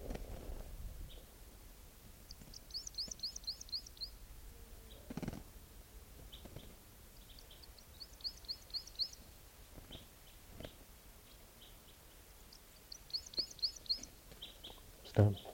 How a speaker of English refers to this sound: Where's that bird? Stop. That bird was just collected, and he'll be number 650.